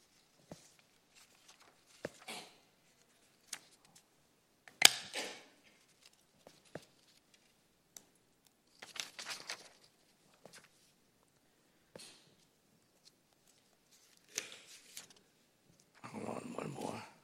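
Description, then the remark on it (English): Sheets of paper being shuffled as a speaker sorts papers that got mixed up, in several short, scattered rustling bursts separated by quiet gaps, ending in a longer, fuller rustle. No one speaks. “Hang in there, I got my paper mixed up.”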